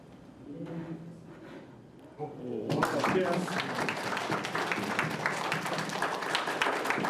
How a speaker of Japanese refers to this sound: なのでうまくいったら拍手をお願いします。